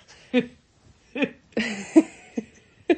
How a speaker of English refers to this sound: Like, I keep burping over here trying not to make any noise.